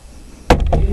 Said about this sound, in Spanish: Daniel, golpean en la puerta. Daniel, soy yo, Arioch, el ejecutor del rey.